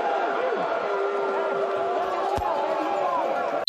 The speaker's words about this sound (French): Voilà le poté. C'est réussi. Et après une demi à Ottawa, c'est 20 à 2 les Lions. Écoutez la foule. Oh, c'est incroyable.